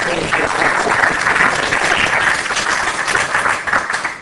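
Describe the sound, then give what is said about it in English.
Sustained audience applause: many hands clapping in a dense, steady wash of noise that stays loud for about four seconds before starting to thin out, given to the organizers for inviting people to talk. “I think the main thing I take away from this is that we should give a round of applause to the organizers for inviting people to talk.”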